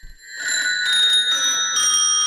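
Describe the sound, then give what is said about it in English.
Small bright bells of an old toy ring out together, their high metallic tones layering and sustaining with a shimmering, slightly tinny quality, fairly loud, with no voices. “It was essentially an array of bells that could be triggered by a piano keyboard, and it sounded very similar to this toy.”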